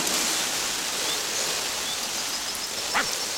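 Water sprays steadily from a hose onto thirsty marigolds in a flowerbed in a continuous, even hiss that lasts throughout, with a brief faint squeak near the end and no talking.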